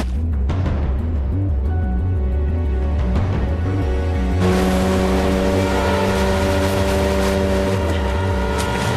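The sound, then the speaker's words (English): A small inflatable motorboat's outboard engine starts up and revs, its steady low drone rising into a louder, brighter roar as it sets off, with water splashing and hissing beneath the motor. “Laurent sets off in an inflatable.”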